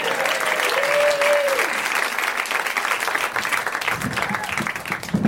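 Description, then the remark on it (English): Steady, dense crowd applause at the start of a live show, for the person running the show, fills the whole stretch, with a brief whistle-like tone early on and muffled voices creeping in under the clapping toward the end. “Let's have a big round of applause for the person who's not normally here running the show.”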